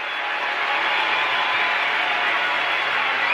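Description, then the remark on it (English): A packed tennis stadium crowd, in a stadium seating more than 23,000, roars and cheers continuously at a semifinal between Venus and Amélie Mauresmo, cheering for Mauresmo at triple break point in the third set; a dense, loud wash of many voices that stays steady throughout with no single voice standing out. “The stadium, which seats more than 23,000, was packed. And to be clear, the crowd was cheering in some moments very loudly.”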